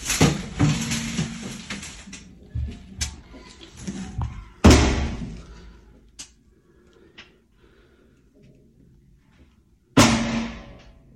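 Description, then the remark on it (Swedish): Loud gunshots ring out, heard from inside a toilet, a few heavy booming blasts spaced seconds apart, so loud the walls rattle, each trailing off with a rattling echo and scattered clattering in between. “Skotten är så höga att det skallrar till i väggarna.”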